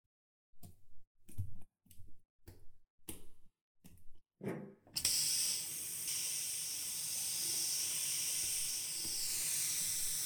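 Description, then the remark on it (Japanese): A handful of short, scrunching bursts give way to a steady, loud hiss of water spraying, rinsing shampoo foam from hair and running on without a break until the end. “一回泡流すね。”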